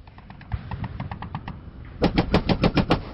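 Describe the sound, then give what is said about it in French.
Bolter gunfire, loaded with 'vengeance' rounds for fighting Chaos Space Marines, rattles out in rapid bursts: a quieter stuttering volley first, then a louder, punchier burst of roughly eight sharp, evenly spaced shots. “La vache, t'as mis quoi comme munition dans ton bolter, toi?”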